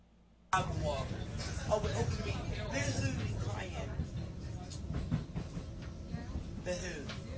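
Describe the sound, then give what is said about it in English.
Steady low rumble and rattling hum of a moving train carriage, continuous throughout, with indistinct background chatter from passengers mixed into the noise. “Because I'm on a train now and one British on it!”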